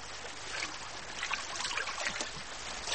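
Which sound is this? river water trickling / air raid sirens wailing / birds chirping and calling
river water trickling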